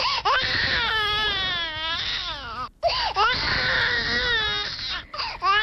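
baby crying

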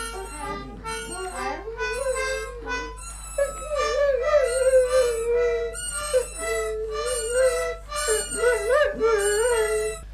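dog howling along

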